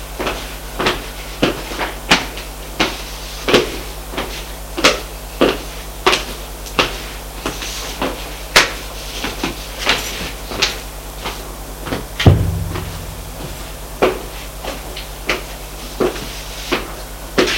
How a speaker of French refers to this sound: Frappe à la porte. Entrez. Il entre.